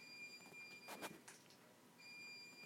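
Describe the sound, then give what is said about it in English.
A washing machine's high electronic reminder beep sounds twice, steady tones separated by a brief rustling clatter, faint, with no one speaking. The machine repeats this reminder multiple times, about four, before entering a power save state. “And that's the washing machine doing its reminder again.”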